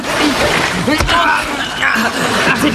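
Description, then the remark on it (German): A big splash as a stranded whale drops into the water on its own, followed by sloshing, with voices and chuckling running over it throughout. “Der ist allein hineingesprungen.”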